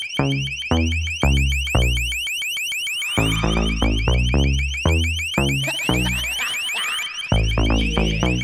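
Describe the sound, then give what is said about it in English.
A loud, piercing electronic siren tone from an LRAD (long-range acoustic device) warbles rapidly around one shrill pitch, with repeated throbbing pulses underneath. It runs continuously and harshly, with no voices. “LRAD, the long-range acoustic device. They were mounted on police cars during the Republican National Convention in 2004.”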